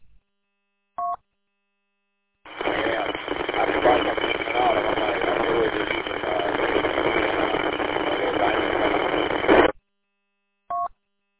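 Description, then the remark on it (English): An automatic car wash at a Honda dealer churns with a loud, steady roar and spray for about seven seconds, heard from a car going through the wash, thin and muffled as if over a phone line, with a short electronic beep before and after. “I might be looking at a second phone in a car wash.”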